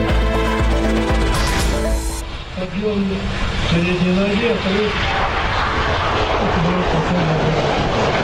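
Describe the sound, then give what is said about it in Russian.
Aircraft engines roar loudly and steadily at the 2011 outdoor air show in Zhukovsky, Russia, where Putin views Rostec's Sukhoi Superjet 100 civil airliner; a broad wash of engine noise fills the scene while a voice talks faintly beneath it. “В 2011 году. Выставка самолетов в Жуковском.”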